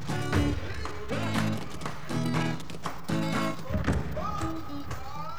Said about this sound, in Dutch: Stampend met hun gumboots laten mensen in Zuid-Afrika horen hoe blij ze zijn of hoe boos. Ze gebruiken hun gumboots om hun stem te laten horen.